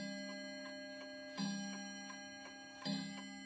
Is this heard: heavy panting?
no